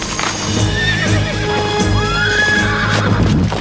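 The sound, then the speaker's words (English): A horse being ridden out of a river and onto a sandy track lets out a high, wavering whinny that rises and falls, while steady hoofbeats clop underneath in an uneven rhythm. The sound stays loud throughout, with no voices. “guides her steed out of the water and onto the sandy track.”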